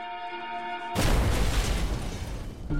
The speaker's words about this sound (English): The explosion itself had almost completely destroyed the home. One of the neighbors said it felt like an earthquake.